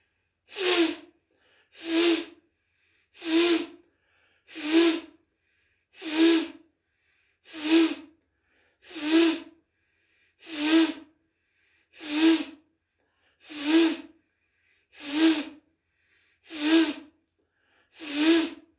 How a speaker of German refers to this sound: Man merkt aber schon, dass man den Atem lang halten kann. Aber letztendlich kommt es auf den langen Ausatem an. Der sagt dann letztendlich, wie der Atem wirklich ist.